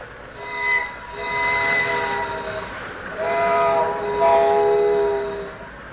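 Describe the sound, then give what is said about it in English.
A train rushes past at about 80 miles an hour with a loud rumble while a steady, multi-toned whistle sounds for several seconds, swelling and falling slightly as it goes by. “He went by so very, very fast.”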